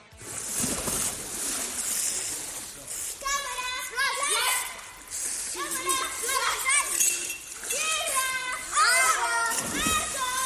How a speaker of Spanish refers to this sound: este sonido de salpicaduras, los niños jugando, por ejemplo, a esto del Marco Polo, como estábamos escuchando